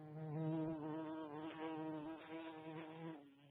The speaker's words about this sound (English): Oh, yeah, I can kind of hear a fly buzzing around.